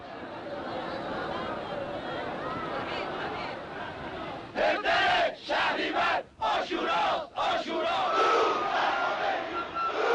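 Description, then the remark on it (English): A large crowd in Iran roars with a steady wash of many voices, then breaks into loud, rhythmic chanting in unison of greetings to Khomeini while surging toward him, with forceful repeated bursts separated by short gaps. “Greetings to you, Khomeini, they chanted, surging toward him, desperate to touch the hand or robe of the holy man, or to have something, anything, touched and blessed by him.”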